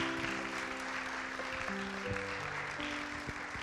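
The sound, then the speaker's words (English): An audience gives another round of applause in appreciation of a speaker, a dense wash of clapping that holds at an even level throughout, with soft sustained musical notes ringing underneath. “Let's just give another round of applause to Molly, just an appreciation for what she's brought forward here today.”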